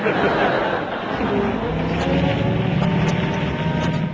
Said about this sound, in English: Engine trouble. Fall out and push.